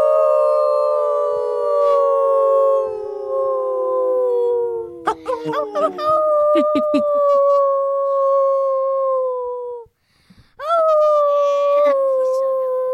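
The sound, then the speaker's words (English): Several human voices howl together in imitation of wolves to celebrate hard work, long sustained tones sliding downward, briefly breaking off around the middle, then a final group howl rising back up, loud. “Do you want to howl on your own for all your hard work, or do you want us all to come in and howl?”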